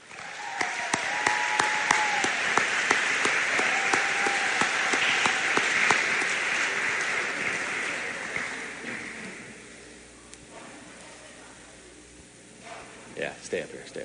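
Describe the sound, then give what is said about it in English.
A large audience at a Fort Recovery High School awards ceremony claps steadily for the Outstanding Service Award winners for several seconds, a dense wash of many hands, then the applause gradually thins and fades out, with a voice starting up briefly at the end. “Let's give one more big round of applause for all of our Outstanding Service Award winners.”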